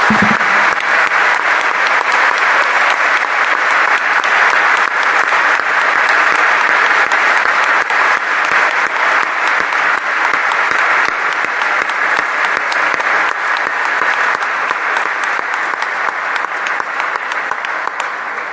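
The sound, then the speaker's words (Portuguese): Sustained applause from a large audience, given in thanks to God for the wives and the pastors, loud and steady for the whole stretch, a dense wash of clapping hands that barely fades toward the end, with no talking over it. “Podríamos dar un aplauso de agradecimiento a Dios por las esposas y los pastores.”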